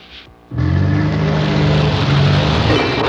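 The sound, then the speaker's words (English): A car braking sound effect: after a brief quiet moment, a loud, sustained rush of engine and tire noise with a steady low drone holds strong for a couple of seconds. “Oops, sounds like you either need new glasses or new brakes.”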